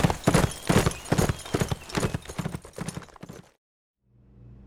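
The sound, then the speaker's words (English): A spooked horse's hooves clip-clop down a road in a quick, steady rhythm, loud at first, then thinning out and stopping, followed by a brief silence and a low hum. The horse was slapped on the rump and carries an unconscious rider tied upright in the saddle. “The gun slicks tied Paul upright in his saddle and slapped the already spooked horse on the rump.”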